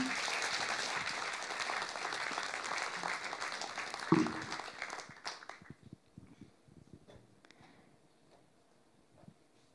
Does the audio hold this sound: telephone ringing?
no